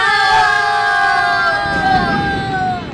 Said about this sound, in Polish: Rozległy się krzyki i brawa.